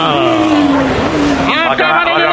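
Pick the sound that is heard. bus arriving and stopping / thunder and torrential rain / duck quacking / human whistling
bus arriving and stopping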